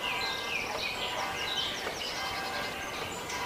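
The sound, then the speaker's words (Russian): Birds chirp and sing in overlapping, busy phrases over a steady outdoor hiss, the calls fairly faint, with no one speaking. “А теперь сконцентрируйтесь на звуке пения птиц.”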